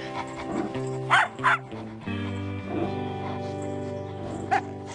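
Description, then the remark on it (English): Two dogs, Ladybird and Doggy, bark in quick succession, then a single sharp yip follows a few seconds later, all over steady background music with no talking. “Ladybird and Doggy like each other.”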